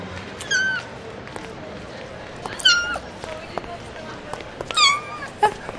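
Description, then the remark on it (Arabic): A cat that is running fast, as if fleeing something, meows three times, each call a short rising-then-falling cry spaced about two seconds apart, with a few faint clicks and a light background hiss. “نعم انظر انظر إلى تلك القطة إنها تجري بسرعة إنها تهرب من شيء ما”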